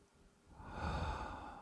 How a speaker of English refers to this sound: Expand, breathe, be. Wide open. Wide open. Breathing in.